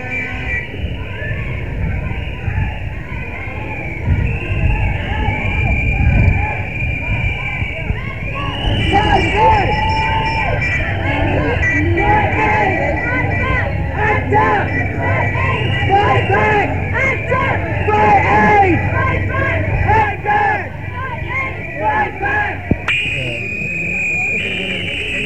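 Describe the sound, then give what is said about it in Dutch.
A loud, dense Act Up AIDS protest march on the Herengracht during the AIDS conference, with a large Act Up Paris banner group making much noise: a constant babble of many voices, shouts and whistles, and a steady droning, alarm-like tone running under the din throughout. “En Act Up Paris heeft echt een heel groot spandoek en die maken ook ontzettend veel herrie.”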